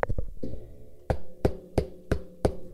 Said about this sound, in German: Plötzlich klopft es an der Tür.